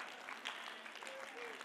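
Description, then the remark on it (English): An audience claps steadily during a sermon for a couple of seconds, a dense, even patter of many hands at moderate volume, with a faint voice barely audible underneath. “That's a good place to clap, and you almost missed it.”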